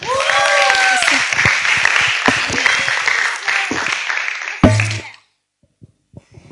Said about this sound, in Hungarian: Szóval kérlek, hogy fogadjátok nagy szeretettel és nagy tapssal